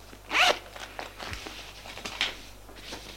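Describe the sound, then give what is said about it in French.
A man seated at a small table in an office unzips his satchel with one quick, loud zip, followed by a few seconds of softer rustling and handling sounds as he takes out papers, with no voices. “Il s'assoit à une petite table du bureau, ouvre son cartable, prend des papiers et écrit.”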